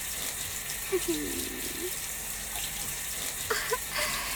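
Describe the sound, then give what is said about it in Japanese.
Steady, hissing shower spray runs throughout at a moderate level as a man's genitals are rinsed off, with a few brief soft vocal sounds rising faintly over the rushing water. “行ったばっかりで敏感なおちんぽにシャワー当てるのくすぐったいかもしれませんけど、我慢しててくださいね。”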